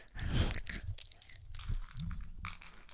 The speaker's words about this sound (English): I'm going to try that. Oh my god, it's so loud. I want to do it again. Yeah, it looks like you're going to. Let's put like three in your mouth and do it so it's extra crunchy.